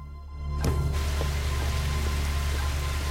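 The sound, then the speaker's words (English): Steady rain falls, a dense, continuous hiss that swells in after a brief quieter opening and stays even and fairly loud throughout, with a low hum underneath and no voices. “The canvas hood is up because of the rain.”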